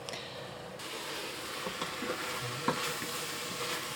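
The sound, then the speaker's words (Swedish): A steady, crackling sizzle of a meat stew in a pot after simmering, the meat juices absorbed and no moisture left at the bottom: a dense hiss broken by small pops and occasional scraping or stirring noises, with no voices. “Man hör också att det är ingen fukt i botten.”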